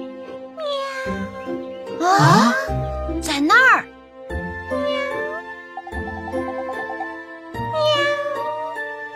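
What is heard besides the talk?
frightened cat meowing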